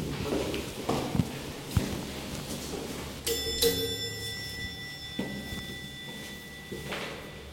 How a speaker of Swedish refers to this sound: Ingen kommer till dörren. Men jag tycker ändå att jag hör något. Efter en stund ringer jag på igen. Sen öppnas dörren.